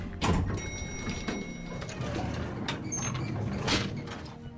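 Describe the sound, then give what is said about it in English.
Something is pushed into a doorway and gets wedged, with continuous scraping and rattling, a couple of heavier bumps, and a faint squeak as it grinds against the frame. “Oh, we got wedged in the door.”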